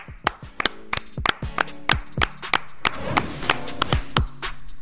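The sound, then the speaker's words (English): Hands clap in a loose, uneven series of sharp, crisp smacks, about a dozen and a half over a few seconds, crowding together briefly in the middle. No voices are present. “Clap it up. Clap it up.”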